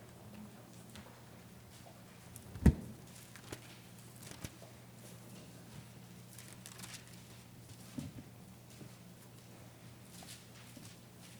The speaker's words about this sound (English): You know, you're right. It does sound good when you hear the pages turn.